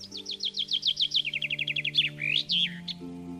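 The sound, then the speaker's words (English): A rose-breasted grosbeak perched in a newly leafed maple tree in spring sings a quick run of high, bright chirps that speeds into a trill, then ends with a few swooping whistled notes, clear over a steady low background hum. “Several springs I've been serenaded by a rose-breasted grosbeak perched in the tree while planting morning glories.”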